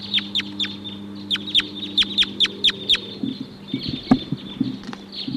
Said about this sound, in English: There's a huge flock of crossbills here now. About 14 or 16 birds.